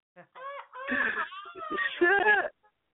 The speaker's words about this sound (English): Y'all hold this is a bird. It's a bird.